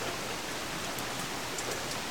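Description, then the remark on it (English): Steady rain falls before dawn in a continuous soft hiss, with faint scattered drops tapping through it as raindrops fall from a veranda and splash onto a gate, and no voices. “Outside, as darkness dimmed, I felt the light and heard the wishing of rain, willing me out of my seat.”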